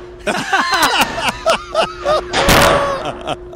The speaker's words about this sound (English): That is such a violent door slam there at the end.